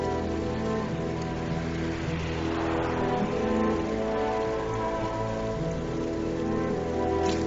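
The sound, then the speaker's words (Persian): Steady rain pours onto a street, a dense continuous hiss of drops spattering the pavement, constant throughout with no voices. “تو خیابون زیر بارونه.”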